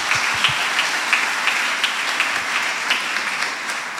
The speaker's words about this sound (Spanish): Lucas, démosle un aplauso a Lucas y ahorita les digo por qué. Dile, esto es para ti, Luquitas.